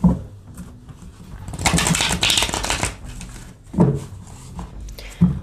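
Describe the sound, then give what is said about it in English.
A crisp riffle of shuffling a deck of cards lasting about a second, followed by quieter fluttering and brief handling clicks, with a few softer bursts of card movement later on. “All right, give them a shuffle.”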